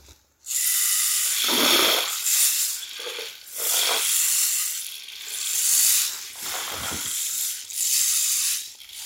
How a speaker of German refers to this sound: Der Zwerg hört einen Bach rauschen.